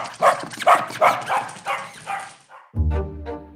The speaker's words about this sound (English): As any dog owner can tell you, dogs bark for a wide range of reasons.